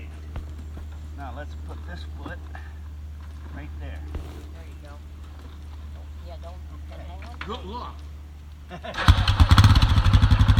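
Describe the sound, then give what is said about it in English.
A motorcycle engine idles with a low steady rumble beneath people talking as a passenger climbs on behind the rider, then fires up near the end into a loud, rough roar. “Now watch that engine up front.”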